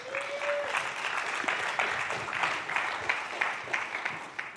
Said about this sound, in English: Okay, come on, give him a clap, give him a clap.